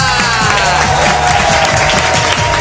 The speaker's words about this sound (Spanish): y una persona para la que todavía no habíamos pedido un aplauso como este que te van a dar.